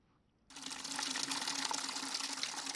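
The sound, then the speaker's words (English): After a brief quiet moment, water abruptly starts rushing and splashing as emergency medical workers and civilians clear dirt and debris from the water beneath houses on the shores of the Bakassi Peninsula, Cameroon; a loud, steady, churning wash that continues without pause to the end. “Emergency medical workers, together with some civilians, cleared dirt and debris from water beneath houses on the shores of Cameroon's Bakassi Peninsula.”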